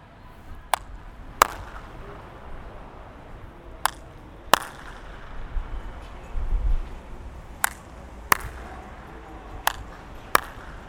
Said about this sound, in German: So, jetzt schauen wir, ob mein Hupenversuch hier klappt. Klatschen geht's leichter.